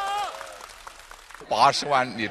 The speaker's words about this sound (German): Großer Jubel im Kontrollzentrum.